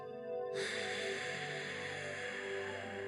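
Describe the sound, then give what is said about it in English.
A long, forceful breath out, pushed in one sustained loud rush of air, starting abruptly after a faint low hum and continuing steadily without pause. “And then, when you breathe out, it's like we flick the switch on the vacuum cleaner, and now instead of pulling the air in, it's pushing it out in a long burst, like this.”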